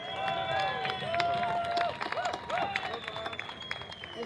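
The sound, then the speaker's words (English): A crowd at a march gathering applauds a speaker being introduced, the director of the Middle East Children's Alliance, with steady, dense clapping for about four seconds, with whoops and cheering voices rising above the claps. “Please give her a warm hand of applause.”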